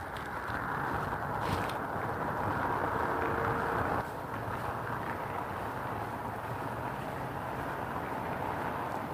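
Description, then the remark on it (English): A train whistle about 6 or 7 miles away, coming from the north or northeast, sounds as a long, steady blast for about four seconds, then cuts off, leaving a broad windy rumble that continues alone. “And yeah, those whistles are loud, but that's a long way for a train whistle to be so evident.”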